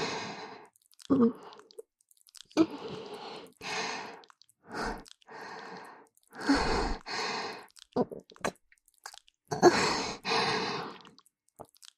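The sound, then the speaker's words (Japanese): Wet squelching noises of sexual activity come in irregular bursts of a second or so, separated by short silences and mixed with soft, breathy sighs. No clear words are spoken. “この、くちゅくちゅって音、いやらしい水音、聞こえます？”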